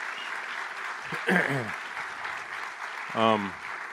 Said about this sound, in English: But I do think I want another round of applause for all of our volunteers, because they really do all the work and come up with all creativity.